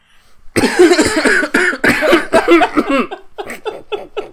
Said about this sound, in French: Attends, je tousse juste une dernière fois.